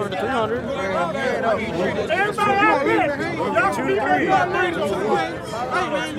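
A dense crowd of gamblers at the No Guts, No Glory event haggles over betting odds, many overlapping voices forming a steady, loud babble with no single speaker standing out, continuous throughout.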